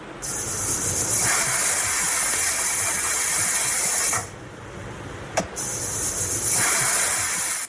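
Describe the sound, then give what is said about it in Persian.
A pressure cooker hisses steam in a loud, steady jet, briefly cutting out after about four seconds with a small click before the harsh hiss starts up again, as a family cooks meat at home in Afghanistan during Eid al-Adha. “در دومین روز عید قربان شماری از خانواده‌های نادار در ولایت‌های مختلف افغانستان می‌گویند که پس از مدت‌ها توانستند بار دیگر در دیگ بخار خانه‌هایشان گوشت پخته کنند.”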